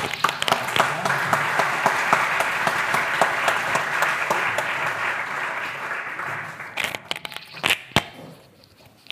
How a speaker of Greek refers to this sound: Ευχαριστούμε πολύ, ένα θερμό χειροκρότημα.